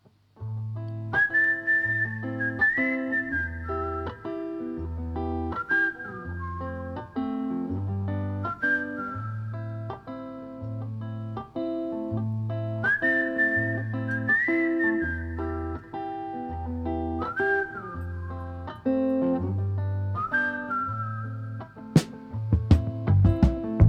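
A bright whistled melody floats above a steady, rhythmic musical backing with bass notes, sounding like part of a song; the tune rises and falls in repeating phrases, clear and fairly loud, with no talking.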